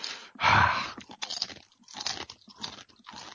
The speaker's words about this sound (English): Okay, well, at least I have a bag of chips here I can chew on while you're doing that.